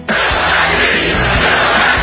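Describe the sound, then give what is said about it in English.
A large crowd of supporters at a rally in Fayetteville, North Carolina chants "Fill that seat" in unison, loud and steady, the massed voices carrying a rhythmic rally cheer throughout. “A crowd of supporters in Fayetteville, North Carolina is chanting, "Fill that seat."”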